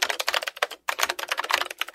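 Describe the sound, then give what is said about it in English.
Rapid, clacky keystrokes from a mechanical keyboard, fairly loud, typed in quick bursts with one brief pause; no voices. “That's a mechanical keyboard.”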